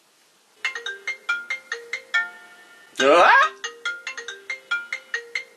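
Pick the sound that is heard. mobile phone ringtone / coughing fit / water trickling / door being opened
mobile phone ringtone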